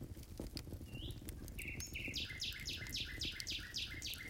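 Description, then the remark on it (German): A nightingale sings a fast run of repeated, bright notes in a steady rhythm, clear, over a low, constant background rumble, with no one talking. “Die Nachtigall ist eine Botin des Frühlings. Nur für eine bestimmte Zeit, meistens im Monat Mai, kann man ihrem Gesang lauschen.”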